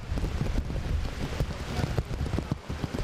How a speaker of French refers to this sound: Et dans Port-au-Prince, dans moment n'a parlé à là, c'est kounya la pluie a dit l'a vini et l'a vini bien fort avec un pile vent.